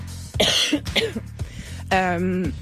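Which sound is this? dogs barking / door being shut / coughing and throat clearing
coughing and throat clearing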